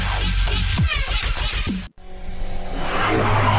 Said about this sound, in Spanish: Los motores se revolucionan. Es señal de que estamos de vuelta en Factor Autos.